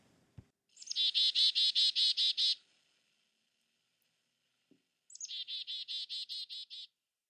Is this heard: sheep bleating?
no